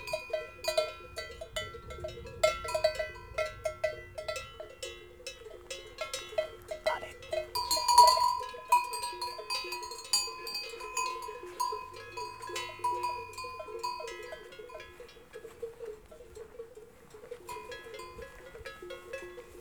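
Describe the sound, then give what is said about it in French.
Many cowbells clank and jingle in a constant, irregular jumble from grazing herds of horses, cows and sheep on the Beorlegi plateau, with occasional sheep bleats mixed in. The sound is outdoors, with no voices. “Ici se côtoient des chevaux, des vaches, des brebis, des moutons.”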